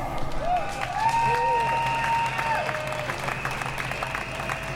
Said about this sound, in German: Macht einen Applaus für David Claudio Sieber.